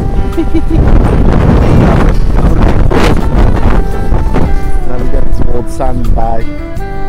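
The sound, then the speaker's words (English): Heavy wind buffets the microphone in a continuous loud, low rumble, with a few faint voice fragments poking through the roar. “It's very windy up here, very, very windy roads.”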